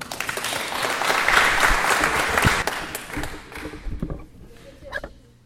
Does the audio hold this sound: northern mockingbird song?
no